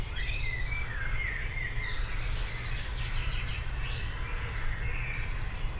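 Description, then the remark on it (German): Chaffinches sing nearby in quick, bright chirping phrases that overlap throughout, over a steady low rumble of outdoor background noise. Nobody speaks. “Ich war deswegen still, weil ich gerade wieder andere Vögel hörte.”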